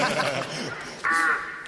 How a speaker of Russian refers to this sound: О, грачи на юг полетели.